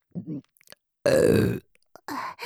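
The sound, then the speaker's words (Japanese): A loud, drawn-out, full-force burp lasting about half a second, rough and deep with a falling pitch, framed by brief breathy vocal sounds before and after. “私はリスナーの皆さんがたくさんゲップを聞いてオナニーできるように最初から全力でゲップするだけです。”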